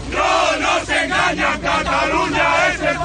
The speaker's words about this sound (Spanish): Los gritos de los manifestantes de Hogar Social Madrid han obligado a los agentes de la Guardia Civil a separarles unos metros de los miembros de Esquerra, que finalmente han podido celebrar el acto, aunque con dificultades.